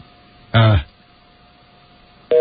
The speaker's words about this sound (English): Well, that's not a beep. That sounds like they hung up on you.